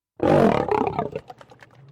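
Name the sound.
lion roaring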